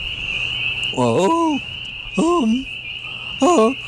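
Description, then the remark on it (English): A man imitates a peeper frog with three short, rising chirped calls spaced about a second apart, clear, over a steady high-pitched insect-like drone in the background. “Quite frankly, it is ludicrous that you, a fully grown man, should play a frog.”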